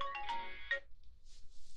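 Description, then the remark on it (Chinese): A phone ringtone for an incoming call from a boyfriend in the middle of the night chirps out in a quick run of bright, melodic electronic tones, fairly loud, then cuts off, leaving faint hiss. “等一下，我男朋友怎么每次都是这个时候打电话？”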